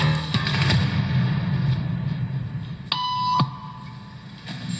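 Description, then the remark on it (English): A single electronic beep, about half a second long, sounds clearly over a low, steady room hum during a social conformity experiment, signalling people in the room to stand up. It is a bright, buzzy tone with no speech around it. “Beep means stand up.”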